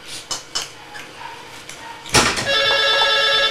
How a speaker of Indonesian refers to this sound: Tuh, telepon.